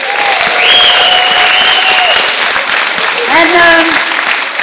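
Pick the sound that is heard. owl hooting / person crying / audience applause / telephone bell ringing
audience applause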